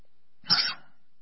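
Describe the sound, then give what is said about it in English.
A single short, sharp sneeze bursts out, a quick explosive rush of breath that fades within a fraction of a second, with silence before and after. “I was waiting for the sneeze to come so I didn't sneeze into the mic.”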